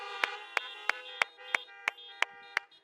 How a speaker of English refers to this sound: But can we just honk our horns for the moms, for the women?